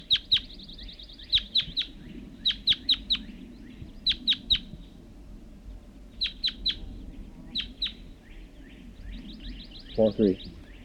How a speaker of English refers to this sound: It was one lone male red crossbill, large race, and I see him sitting in the large white pine across the hollow, across the creek.